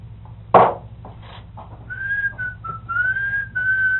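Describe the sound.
A person whistles a short run of clear, sustained notes that slide slightly between pitches, answering a bird, preceded by a single sharp knock, with a low steady hum in the background.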